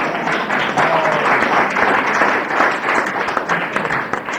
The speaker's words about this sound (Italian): Oggi la vostra festa. Vi facciamo un applauso.